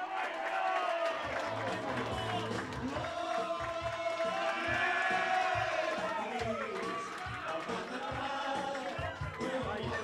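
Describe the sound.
A crowd applauds and cheers loudly for about ten seconds as a hurler on the team is introduced. Steady clapping runs under whoops and shouted voices, holding a dense, sustained roar throughout.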